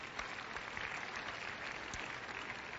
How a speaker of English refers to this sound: Go ahead, you can clap, it won't kill you.